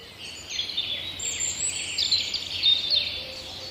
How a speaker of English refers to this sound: where you hear owls way off in the distance, and then things that you can't see, mainly birds, starting to sing from these trees above us. And the whole place then sort of springs to life.